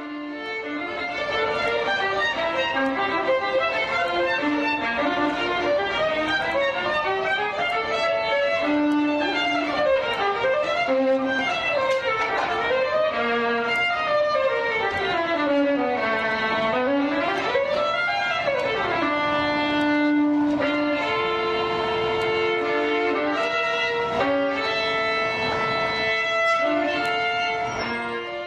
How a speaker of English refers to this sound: Bell plays a $4 million Stradivarius made in 1713.